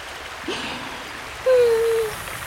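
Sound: flowing river stream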